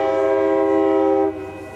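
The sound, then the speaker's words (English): A loud, sustained train horn blares, holding a steady chord for over a second before cutting off, leaving the rumble of a train rolling along tracks that run right next to an office building in Emeryville, California, near the foot of the Bay Bridge. “We're right near the foot of the Bay Bridge, and there are train tracks that run right next to our building. And if you think that's bad, listen to this.”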